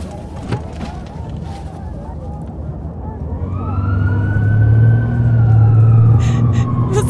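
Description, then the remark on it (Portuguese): An ambulance siren swells in partway through and holds a steady wailing tone, fairly loud, over a deep engine rumble, with faint crowd noise and murmuring beforehand. “As pessoas abriram caminho pra você chegar até a ambulância.”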